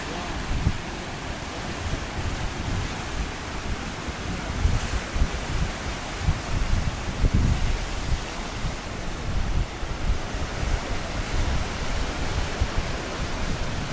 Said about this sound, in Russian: Давайте мы ближе посмотрим на океан. Тут, наверное, ветерок будет слышно, несмотря на мою защиту. Но вот так я помолчу.